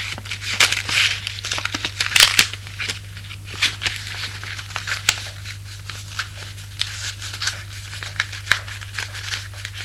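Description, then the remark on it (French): Small paper crinkles and dry rustling tick in irregular bursts, busiest in the first few seconds, over a steady low hum. Someone is rolling a joint by hand in his bedroom, with no voices. “Là, il prépare son pétard.”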